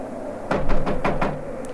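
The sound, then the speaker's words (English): Five firm knocks on a door in a quick, even rhythm, fairly loud, followed by quiet with a soft hum underneath. No one speaks. “All right, all right. Come along. I'll knock.”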